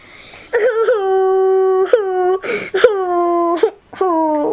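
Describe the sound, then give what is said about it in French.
A she-wolf whimpers and cries in long, high, drawn-out whines, three sustained wails broken by short catches of breath, loud with no other sounds around. “Pourquoi pleures-tu? Je pleure parce que je suis menacée.”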